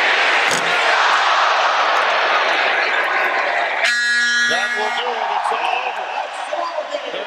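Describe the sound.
A packed basketball arena crowd screams and roars loudly in the final seconds of Arkansas's 120-68 win over Missouri, televised on ESPN; a harsh buzzer blares for about a second midway, and a voice shouts faintly beneath the din.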